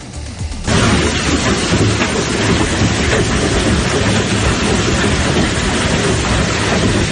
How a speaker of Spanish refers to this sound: Así caía la pasada tarde el granizo en Benaguasil, parecido en Sagunto, en Llíria o la Pobla de Vallbona